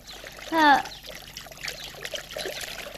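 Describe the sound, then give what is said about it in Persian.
Ice-cold fresh spring water trickles and pours steadily into a glass, with a brief rising tonal splash near the start and a soft, continuous stream afterward, fairly quiet. “بله البته، بفرمایید از این لیوان بنوشید.”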